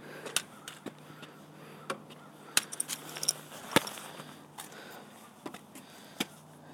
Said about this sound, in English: Goodness, have we got enough crows around here? A murder of crows.